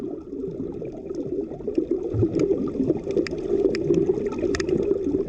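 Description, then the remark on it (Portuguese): Muffled underwater ambience with the ears submerged: a steady low, murky rumble with scattered faint clicks and crackles throughout, no voices, all at a fairly even level. “As suas orelhas ficam embaixo d'água, então você não ouve nada, a não ser isso aqui.”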